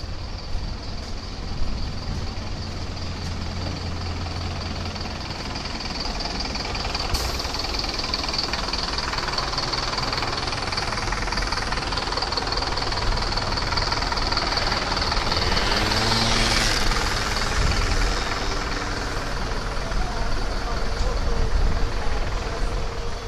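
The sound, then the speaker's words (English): Steady street traffic rumbles throughout, with engines of passing cars and a heavier truck, forming a continuous, moderately loud wash of noise; faint voices may be mixed into the background. “Watch out for cars.”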